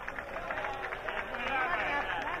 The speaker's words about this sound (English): Oh, look at that now. It's being greeted by sustained applause. 2,500 people all clapping.